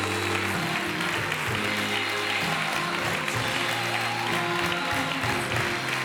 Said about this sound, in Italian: Basta, basta, è di più, cioè, non parliamo, solo applausi, solo applausi.